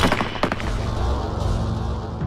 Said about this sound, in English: The deafening explosion of the 8 rifles was the last thing Ahmed heard.